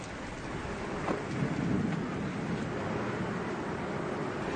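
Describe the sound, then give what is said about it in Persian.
Steady, dense rainfall that is growing heavier pours down in a continuous hiss, with a low, rolling rumble of thunder swelling briefly partway through. No voices are heard. “بارون شدیدتر شده.”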